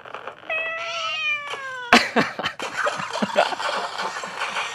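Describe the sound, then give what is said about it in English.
A drawn-out, cartoonish cat meow from the video game Angry Cats slides downward in pitch, then gives way to a busy clatter of crashes and thumps from game sound effects. No one speaks. “And here we go. Angry Cats.”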